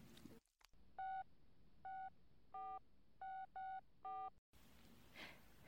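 A telephone being dialed: six clear, close keypad tones, each a short electronic beep, tapped out in an uneven rhythm with a faint hiss between them and no voices.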